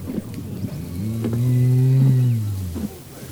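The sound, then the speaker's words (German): A person imitates a sheep's bleat with one long, low, drawn-out 'baa' that holds steady for a second or two, fairly loud against faint background noise. “Sonst steht nur ein Hirte vor der Tür zu den Schafen. Mäh!”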